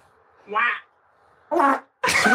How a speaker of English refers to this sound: Shut up, guess my fart, round two.